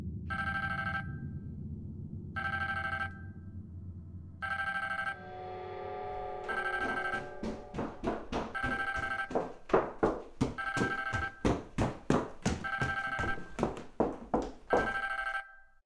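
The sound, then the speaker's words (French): A phone lying under a cushion in a living room rings with a loud, bright electronic ringtone: a few evenly spaced tonal bursts, then a faster, insistent run of rhythmic pulsing notes. There's a low rumble early on and no talking. “Je cherchais mon téléphone. Je savais plus où je l'avais laissé.”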